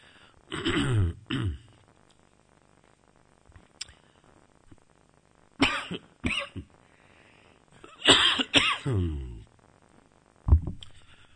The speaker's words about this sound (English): I hope you're not going to get more cough than words today from me.